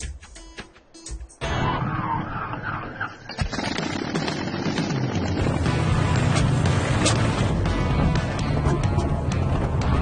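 After a brief quiet moment, an engine primed with more gas is cranked and sputters into loud, rough, uneven running, its irregular pops and chugs continuing steadily with no one speaking.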